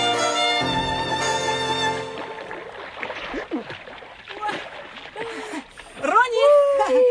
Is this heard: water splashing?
yes